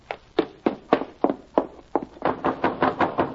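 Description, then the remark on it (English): A boy knocks: a dozen or so sharp knocks rap out one after another, steady at first and then quickening into a faster run of blows toward the end, with no voices. “I ain't banging, I'm knocking only.”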